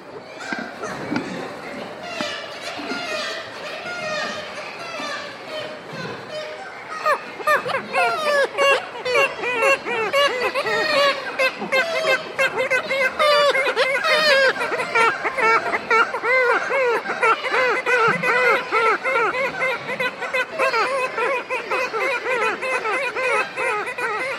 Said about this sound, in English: High on the cliffs and high above a gully, kittiwakes make their presence known as gulls patrol the island perimeter.